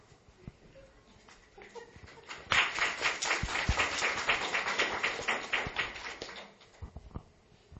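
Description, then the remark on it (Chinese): A church audience bursts into steady applause after prayer, many hands clapping in a dense, rapid patter that swells quickly, holds for several seconds, then tapers off; a few scattered claps and faint murmurs frame it. “先不要鼓掌啊”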